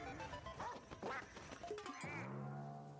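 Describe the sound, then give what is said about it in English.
Several quick, nasal duck quacks from a Nintendo video game, followed by a longer, drawn-out quack that slides down in pitch and holds, loud and clear with no talking. “Oh no, it's the bird. What? It's Nintendo bird.”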